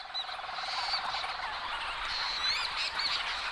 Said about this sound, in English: And the leech's storm petrel is giving this more of a purring sound